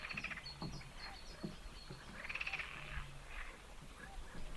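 A chorus of frogs croaks and trills in overlapping, pulsing bursts, with a few deeper low croaks mixed in, heard fairly softly as an outdoor night-time ambience with no voices.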